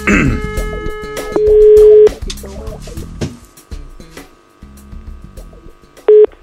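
A phone being dialed to call a plumbing (VVS) firm, with quick bursts of dialing tones followed by a steady ringing tone that repeats after a pause, over faint background activity.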